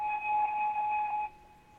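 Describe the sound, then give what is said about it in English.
An electronic alarm sounds in a rapid run of high, pulsing beeps for about a second, fairly loud, then cuts off abruptly, leaving faint room noise. “Beep, beep, beep, beep.”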